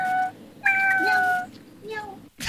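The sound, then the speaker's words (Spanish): A person imitates a cat, giving a short meow, then a long drawn-out one, then a softer brief mew, each clear with a bright wavering pitch. “Miau. Festival de imitaciones.”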